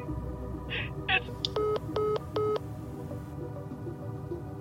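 Three evenly spaced telephone keypad tones beep in quick succession after a couple of soft clicks, clear and close over a low steady background hum.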